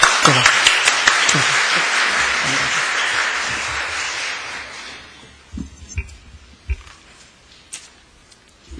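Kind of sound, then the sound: crowd, welcoming applause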